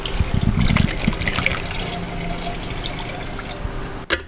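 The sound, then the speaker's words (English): A liquid mixture pours steadily into a small-capacity stainless steel freezing machine, starting with a heavier glugging splash and settling into a continuous trickle, ending with a short sharp click. “And yes, you just poured it right in the machine itself.”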